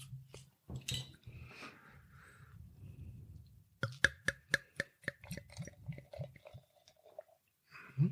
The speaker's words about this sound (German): So, dann machen wir die Flasche doch mal auf.